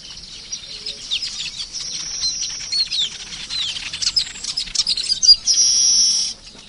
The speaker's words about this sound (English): Birds are about the only signs of life left here, but the signs of the incident are still very visible.